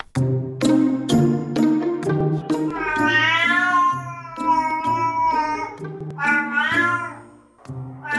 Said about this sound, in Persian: ایرانی ها با انواع صداهای گربه ها ناآشنا نیستند، اما فهمیدن معنا و مفهوم این صداها داستان دیگری است که اینک برخی از پژوهشگران میگویند به کمک هوش مصنوعی موفق به رمزگشایی از آن شدند.